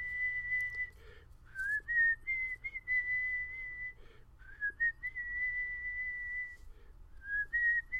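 A person whistles a slow, clear melody of long sustained notes with small pitch slides and brief pauses between phrases, fairly loud, with no talking and a low steady hum underneath.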